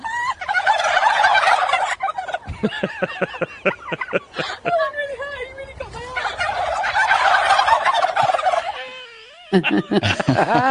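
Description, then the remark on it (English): A large flock of turkeys surrounding a reporter gobbles loudly and continuously, many overlapping warbling calls, with bursts of rapid rattling gobbles rising and falling together like a chorus. “And then all the turkeys start laughing with her.”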